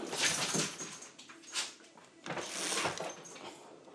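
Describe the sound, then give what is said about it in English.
A dog growls softly in uneven, rough bursts with brief pauses. There is no talking, just the quiet, grumbling noise. “yes, that's him growling away.”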